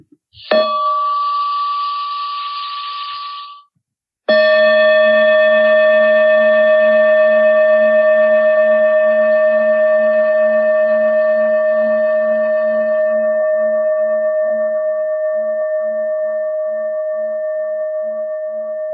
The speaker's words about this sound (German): Und jetzt werde ich eine Glocke einladen.